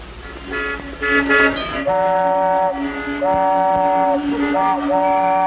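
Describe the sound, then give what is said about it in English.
Several car horns honk over a steady low rumble of heavy traffic, their long and short blasts overlapping almost continuously, loud. “How's the traffic today?”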